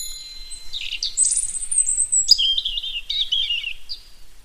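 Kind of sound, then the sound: bird, common chaffinch singing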